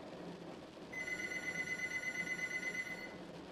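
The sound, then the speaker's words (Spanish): A living-room telephone rings with a steady, high-pitched electronic tone lasting about two seconds, sounding alone over a low background hum with no voices. “El sonido del teléfono de la sala me hizo pegar un brinco del asiento.”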